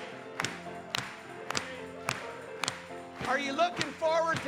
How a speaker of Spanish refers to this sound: Vamos a aplaudir una vez más.